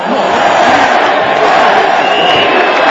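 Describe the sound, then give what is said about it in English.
A large crowd in a square shouts and jeers at Mr. Berlusconi's arriving motorcade, calling him a buffoon and a mafioso and demanding his resignation; a dense, loud roar of many voices with no pauses, rising into scattered yells and cries throughout. “They shouted insults, calling him a buffoon and a mafioso, and demanded his resignation.”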